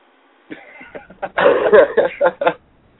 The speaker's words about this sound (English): Oh, all right, because I just hear somebody coughing.